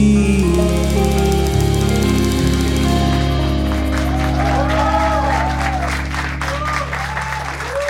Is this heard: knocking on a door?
no